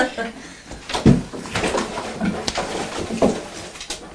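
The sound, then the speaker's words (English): Plastic clatter and knocks as a toy post box is handled, with a couple of sharper thumps standing out amid ongoing rustling, and voices murmuring in the background. “Oh, it's the post box.”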